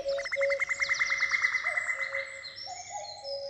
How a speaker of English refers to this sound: It felt like being let into a secret world where bird noises kind of become conversations.